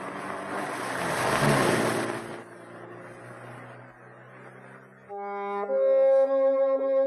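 A car engine revs loudly for a couple of seconds and then drops to a quieter, fading rumble as it pulls away; steady sustained tones come in near the end.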